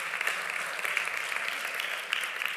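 Steady audience applause, a dense crackle of many hands clapping at an even loudness throughout, with no voices over it.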